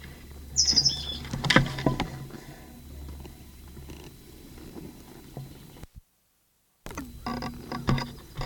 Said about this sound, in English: Nine 16, bird terminated, but still calling from conspicuous perch and upper part of live oak.